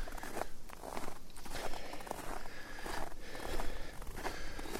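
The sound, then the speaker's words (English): Slow footsteps trudging uphill, each step a soft crunch over a steady bed of rustling ground noise, spaced unevenly at an unhurried pace with no voices. “If you walk slow enough, there isn't much up in up.”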